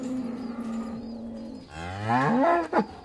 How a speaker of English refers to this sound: So I'm definitely not an expert. I can't translate cow moos into English.